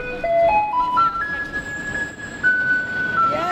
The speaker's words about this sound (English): There was this mad dash of people swarming to the school bus yellow garbage truck and the white recycling truck.